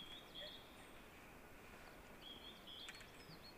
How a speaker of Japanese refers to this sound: 一応お聞いてたんですけど、ヒガラはずっと鳴いてましたかね。ヒガラがずっと鳴いてて、あとウグイスもどうですか。